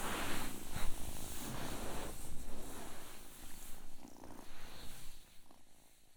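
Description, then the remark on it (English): A little tiny cat purrs steadily, a soft continuous rumble with gentle rhythmic swells as it breathes in and out, with no voices over it. “Oh, it's not just a stone cat, it's a real life little tiny cat.”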